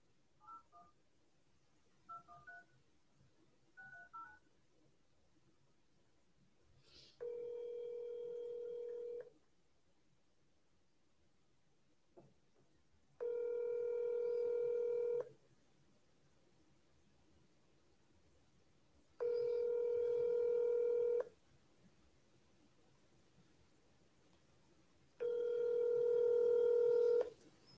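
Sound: telephone dialing tones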